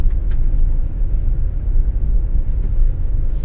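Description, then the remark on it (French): A car drives along the Route forestière de la Reine, a rough forest road near Fontainebleau, France, with many fallen branches on it. Its engine and tyres make a steady, low rumble that holds constant the whole time. No one speaks. “Là, nous sommes sur la route forestière de la Reine.”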